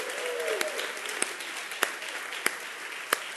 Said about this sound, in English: You know, as I read that this week and as I watched the Heaven's Gates and Hell's Flames production, by the way, can we give a hand clap for all of our actors and actresses? Woo!